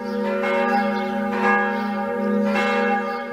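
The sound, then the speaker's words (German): Church bells ring out steadily in Zutphen, a town in the Netherlands, heard on the way to the railway station, their long sustained tones overlapping in a rich resonant wash, with strikes swelling roughly every second and no voices present. “Auf dem Weg zum Bahnhof begleiten mich wohlbekannte Klänge, die Kirchenglocken von Zütphen.”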